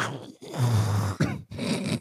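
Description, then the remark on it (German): Someone imitates a coffee machine with their voice, making three gurgling, hissing bursts over a low, throaty hum, the middle burst longest and steady, with no actual words spoken. “Und ihr müsst euch das ein bisschen vorstellen, ich wollte die Geräusche machen, deswegen, roter Faden ist auch heute da, Leute, was geht?”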